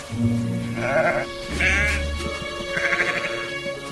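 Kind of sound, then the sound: animal, sheep bleating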